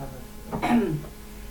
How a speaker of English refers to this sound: clear my throat here.